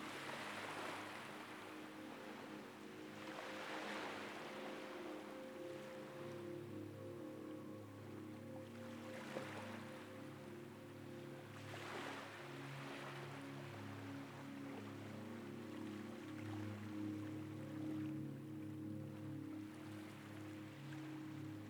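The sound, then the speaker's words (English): Soft sea waves roll in and wash ashore every few seconds in a slow, steady rhythm, with a low continuous hum running underneath. No one speaks. “The sound of the sea nearby is irresistible, and you give up on sleep, deciding to step outside.”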